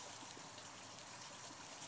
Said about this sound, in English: You might hear a babbling brook to the side of me.